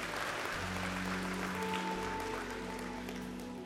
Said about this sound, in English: And so I want to start by saluting all of the fathers who are here today, who are committed to being a godly father. Let's give them a wonderful round of applause.